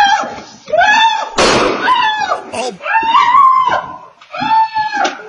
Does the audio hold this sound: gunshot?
yes